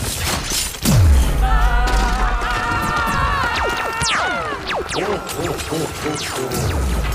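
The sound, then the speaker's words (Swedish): A deep, loud explosion boom hits about a second in, damaging a building, followed by sustained crashing and shattering debris as walls and windows fall in and the floor gives way, with tonal whines and falling whistling sweeps layered over the rumbling chaos, like a sound effect. “Explosionen skadar byggnaden och väggar och fönster börjar falla in.”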